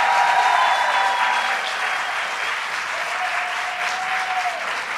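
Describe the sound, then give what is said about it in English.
Sustained audience applause for the legislators who got the bill passed, a dense, steady wash of many hands clapping at a fairly loud level for the full five seconds, with a few faint whistles rising above it. “And let's give a round of applause to all the legislators who finally got it done.”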